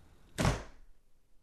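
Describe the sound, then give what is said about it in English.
A single solid thump of a front door shutting as a man walks out, sharp onset with a brief low-heavy body that fades quickly, heard alone with no voices. “Stephen picks up his jacket and walks out the front door.”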